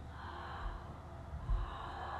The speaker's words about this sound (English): So you can hear your breath. You can hear that you're breathing.